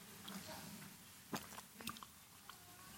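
A person takes a quick sip of a drink, with a few soft mouth clicks and a brief slurp against a quiet background hum, no one speaking.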